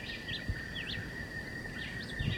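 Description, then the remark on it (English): A white-eyed vireo at the edge of the woods, about 50 meters away, sings a string of short, slurred, high chirping phrases over a steady thin whine and low rumbling background noise. No one speaks. “John Chewitt is probably 30 meters and then wood belly, the vireo, white vireo is back in the edge of the woods, 50 meters.”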